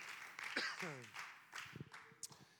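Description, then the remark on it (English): A church audience claps hands in praise of the Lord in a steady, dense patter of applause, fairly quiet, while voices call out over the clapping. “Well, let's just all give the Lord a hand clap of praise for being in the house of the Lord.”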